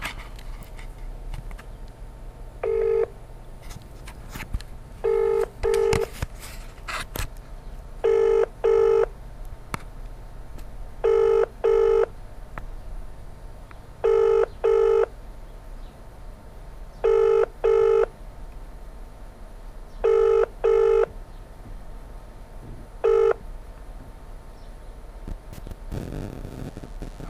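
A telephone ringing tone on the line: steady double bursts repeating about every three seconds, seven or eight cycles, over faint background hiss with no one talking, ending unanswered.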